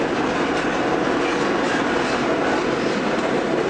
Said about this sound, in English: The train is just creeping along.